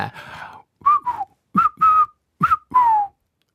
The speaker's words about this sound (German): Okay, wir sind nicht so gut im Pfeifen.